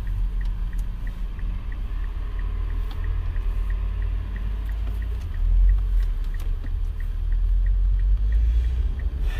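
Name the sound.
car driving in traffic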